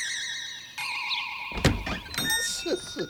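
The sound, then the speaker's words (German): A whimsical magical sound effect as a door with no handle is opened by a spell: a wavering electronic tone shifts pitch, then a burst of sparkly chimes and whooshing swirls rises, evoking an enchanted door swinging open. “Aber die Tür hat keine Klinke. Wie soll man dann reinkommen? Ganz einfach. Ene, mene, Bindestrich. Türe bitte öffne dich.”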